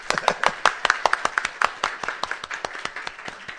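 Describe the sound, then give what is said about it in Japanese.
A round of church audience applause for a newly baptized member after a baptism prayer, many hands clapping in quick, irregular bursts throughout, steady, without any talking over it. “新しい神の家族ですね、もう一回拍手”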